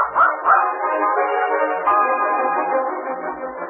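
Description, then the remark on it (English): An odd-looking mixed-breed puppy with big feet yaps and barks in high, strained bursts that run into one another almost without pause, fairly loud, with no one talking. “It is an odd-looking pup.”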